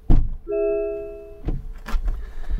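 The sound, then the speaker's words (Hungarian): A car's door-open warning chime, signalling the door is open while the key is in, sounds as a single steady electronic tone lasting about a second, framed by a dull thunk before it and a few mechanical clunks and rustles after. “Ez is ugye jelzi, hogy nyitva van az ajtó, azért jelzi, hogy nyitva van az ajtó, mert hogy benne van a kulcs.”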